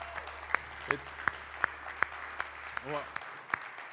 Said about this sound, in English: While we're thankful for the musicians and the team, that is applause for God. I mean, that's just showing appreciation to God for what God has done and continues to do in our worship and singing.